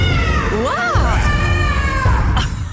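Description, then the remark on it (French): A person's voice imitates a velociraptor on the Chéri FM radio morning show: a loud, shrill screech lasting nearly three seconds, its pitch wavering and swooping up and down, with a rough low rumble underneath. “nous a fait une super imitation de Vélociraptor.”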